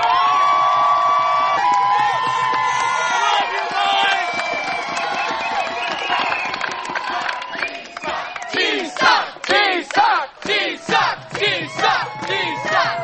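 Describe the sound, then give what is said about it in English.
A crowd cheers and shouts at a labor union rally at NYU, a sustained roar of many voices that gives way to rhythmic bursts of chanting in the second half, loud and energetic throughout. “This rally today tells NYU that unions and organized labor has a problem with them.”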